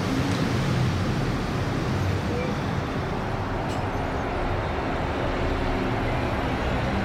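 Dense, continuous low rumble of road traffic bumping over a bridge overhead, its pillars groaning under the load, steady and fairly loud, with heavy vehicles rolling by and a faint hiss throughout; no one speaks.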